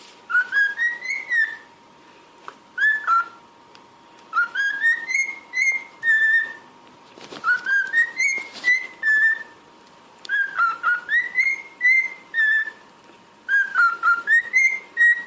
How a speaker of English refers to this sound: Not even that good. God. But I thought it was very good. That was a little cockatiel.